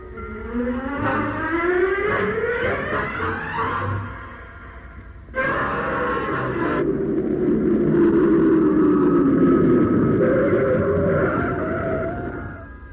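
A car engine revs and accelerates, its pitch climbing, then briefly drops off before surging again and holding a steady, loud drone as the car drives on.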